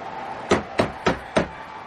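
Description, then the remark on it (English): Four firm knocks on a wooden inn door, evenly spaced about a third of a second apart, clear over a quiet, faintly humming background with no voices. “I'll try the door.”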